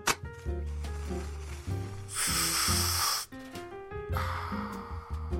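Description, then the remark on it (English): Someone lights a cigarette: a sharp click, then two long breathy hisses of flame and inhaling, heard over steady tonal background music. “Guess I'll light me up a black lung and get going.”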